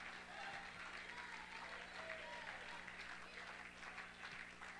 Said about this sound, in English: So the enemy doesn't want you clapping your hands. He don't want you stomping your feet.